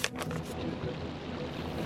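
Water sloshes and splashes steadily for a couple of seconds, close and fairly loud, with a few sharper splashy bursts at the very start and no voices.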